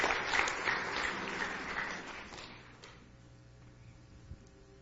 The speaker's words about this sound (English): If they come at this time, give our singers a nice hand as they come to sing for you tonight.